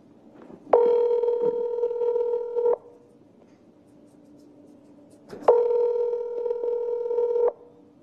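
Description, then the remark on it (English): An outgoing phone call to Chad Daybell's phone number, secretly recorded on December 8th at 3:43 p.m., rings: two steady, electronic ringback tones, each about two seconds long, separated by a few seconds of quiet line hiss. No one speaks. “So here goes the phone call.”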